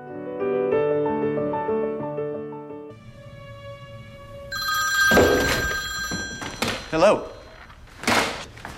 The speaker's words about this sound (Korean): 그날도 밤늦게까지 소설을 쓰다가 잠이 든 주인공 켈빈. 어김없이 꿈속에서 그녀와 행복한 시간을 보내고 있었는데 갑자기 울리는 전화벨 소리에 꿈에서 깨어납니다.